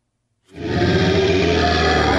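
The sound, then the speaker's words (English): A crowd of people growls together like a bear for the Memphis Grizzlies basketball team, a loud, low, rumbling roar that starts abruptly after a short silence and holds steady to the end. “Can I get a growl?”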